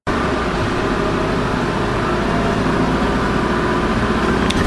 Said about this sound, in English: Well, now I'm on the airport shuttle bus that takes me to Hong Kong Station. I'm very lucky to get it.